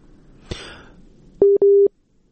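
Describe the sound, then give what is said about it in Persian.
A click is followed by two steady, evenly pitched beeps of a telephone busy tone after a guest's phone call dropped, each lasting about a fifth of a second with a short gap, then silence. “با ما وصل هستن از طریق تلفن. فکر میکنم که تماسشان قطع شده.”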